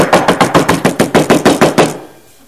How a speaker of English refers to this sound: That's some poor knocking right there, man. I mean, when you go up to the door, usually you go.